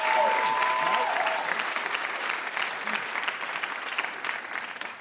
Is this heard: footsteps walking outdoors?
no